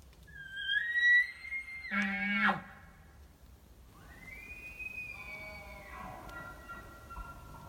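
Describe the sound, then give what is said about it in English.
A distant elk bugles twice: a rising high squeal broken by a burst of guttural, buzzy grunts, then a long, sustained whistling note that slowly fades. Fairly faint overall, with no talking. “I think I heard a bugle”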